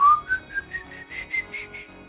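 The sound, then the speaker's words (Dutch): An eerie whistled tune of short, wavering notes that climb and dip in pitch, repeating in a slow, pulsing rhythm with no one talking; a whistle from a video representing the sound of El Silbón from the legend. “Nu, de fluittoon die je in de video hoort, die zal ik wel in de podcast steken.”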